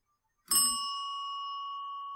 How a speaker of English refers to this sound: Can I use the cymbals to tap the bell? Nobody's ever done that. I don't know what it would sound like. Let's try it.